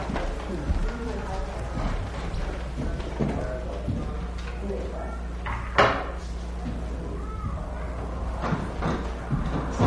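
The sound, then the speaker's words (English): A door is pushed shut with one solid thump midway through, set against steady low room hum and indistinct background voices and shuffling. “Should I close that door?”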